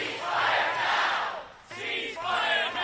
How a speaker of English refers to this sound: Police deployed pepper spray on a large crowd protesting Israel's war in Gaza that marched towards the U.S. Capitol.